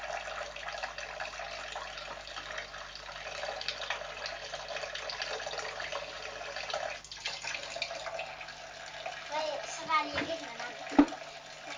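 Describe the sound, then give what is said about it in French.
Water runs steadily from a tap in a continuous, even hiss, with a few soft knocks near the end and faint voices in the background. “Mais arrête l'eau.”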